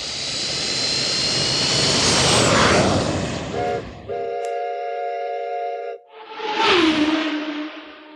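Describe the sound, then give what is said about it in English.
A loud airplane engine roars with a high whine for about four seconds, then gives way to a steady, horn-like blast and a final rushing whoosh. No one speaks. “Planes, trains, and automobiles.”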